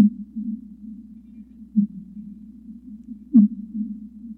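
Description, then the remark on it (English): Fin whale calls sped up tenfold: a low, steady hum with repeated pulsing, broken by a couple of brief louder blips, one with a short sharp chirp-like sweep. “These are fin whale calls that have been sped up 10 times so they're audible to the human ear.”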